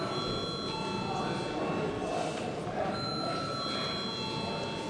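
parliament voting call bell

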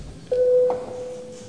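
parliament chamber bell ringing

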